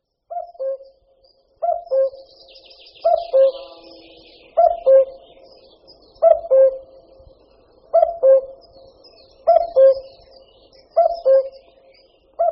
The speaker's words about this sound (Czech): Kukačka obecná.